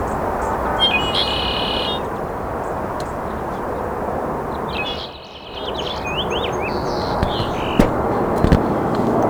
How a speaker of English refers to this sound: That bird diving, I think, was not the manipulated male. It wasn't. Saw the white mark on his back pretty plainly.